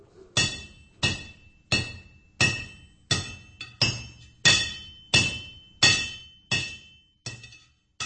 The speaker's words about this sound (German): Aus der Schmiede sind Hammerschläge zu hören.